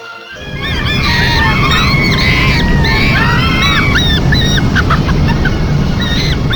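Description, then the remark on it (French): Frantic screams and wails of three panicked primates overlap continuously, loud, recorded inside a spacecraft cabin during ignition and liftoff, over a constant rushing, roaring background noise that starts abruptly and holds throughout. “Les cris horribles et les lamentations pourraient nous le faire douter.”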